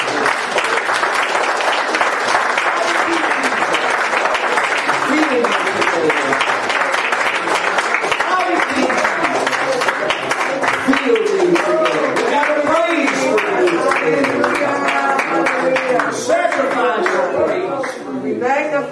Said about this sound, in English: Praise God. Let's clap our hands and give Him a little bit of worship.